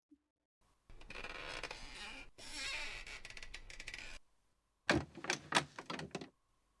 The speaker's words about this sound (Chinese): 来，先让我把椅子放平。